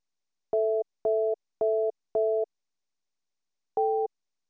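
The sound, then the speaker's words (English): Phone keypad tones entering a passcode into a voice messaging system: four short, evenly spaced dual-tone beeps, a brief pause, then a fifth beep at a slightly different pitch, clear with no talking. “Please enter your passcode, then press the pound key.”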